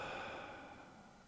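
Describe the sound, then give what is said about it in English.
A soft, breathy exhale during a breathing exercise, a slow deep out-breath released after holding the deepest possible breath for a few seconds, gently fading away over about a second, heard alone and fairly faint. “One, two, three, inhale. Hold it. Hold it there, and exhale.”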